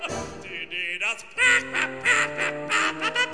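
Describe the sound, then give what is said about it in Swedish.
A voice imitates ducks quacking: a quick run of loud, nasal quacks, pausing briefly, then a steadier string of rhythmic quacks, with no other sounds. “På gården skulle jag ha ankor och höns, jag fåglar och djur av alla slag, skulle fritt få simma och springa runt.”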